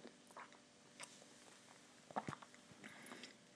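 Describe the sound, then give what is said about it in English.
Soft mouth sounds of someone sipping a sweet, creamy milky cocoa drink, with a brief slurp in the middle and faint swallowing noises; no one speaks. “Let me just take another sip.”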